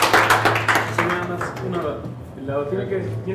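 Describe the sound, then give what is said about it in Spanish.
A brief burst of group clapping, dense and fairly loud, fades within about a second as a man's voice talks over and after it. “Un aplauso para ellos.”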